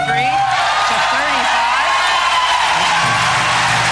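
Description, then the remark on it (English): A large crowd at a political campaign appearance cheers and shouts loudly and steadily for several seconds after a 63-35 poll result is read out, many voices overlapping in a dense, continuous roar with scattered whoops rising above it. “Crowd likes today, that one.”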